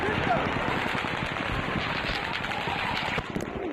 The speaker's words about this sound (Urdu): Social media پر جاری ہونے والی ویڈیوز اور تصاویر میں سینکڑوں افراد کو جائے وقوع سے بھاگتے ہوئے دیکھا جا سکتا ہے. بعض جگہوں پر بظاہر خودکار اسلحے سے فائرنگ کی آواز بھی سنی جا رہی ہے.